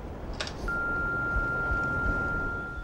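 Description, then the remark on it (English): A single steady voicemail-style beep tone starts just after a brief click and holds unbroken to the end, thin and moderately quiet over a low rumbling background hiss. “Please leave a message of sorts after the beep, and again, wait for the tone before you leave your message.”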